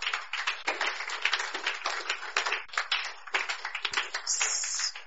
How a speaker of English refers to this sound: You are not clapping for the Lord Jesus.